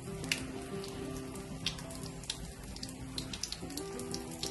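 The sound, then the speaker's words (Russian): Water from a drinking fountain runs steadily, a continuous splashing patter with scattered sharp droplet ticks over a low, even hum. No one speaks. “Ну вот видите, вот она течет, вода, и как здесь иногда, наверное, бывает приятно в жаркий летний день подойти и просто попить воды.”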